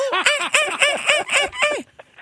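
A monkey calls out in a quick, rhythmic run of about seven shrill, rising-and-falling hoots, loud, then abruptly goes quiet.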